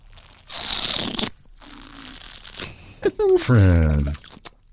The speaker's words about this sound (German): Also, wir sind nicht unerzogen, sondern schlürfen hilft, um die Aromatik besser auf die Geschmacksnerven zu kriegen. Also du kriegst mehr Aromatik, weil du mehr Sauerstoff in den Mund kriegst.